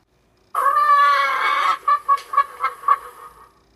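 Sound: chicken clucking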